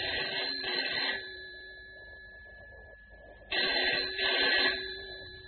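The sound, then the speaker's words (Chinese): A telephone rings twice, each ring a buzzy, trilling burst lasting about a second with a pause between. It sounds clear, with a faint hum underneath and no voices. “啊，大概是永瑜他们来电话了。”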